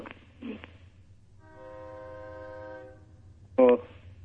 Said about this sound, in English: Do you hear that train passing? Yeah, what's happening? I live by train tracks.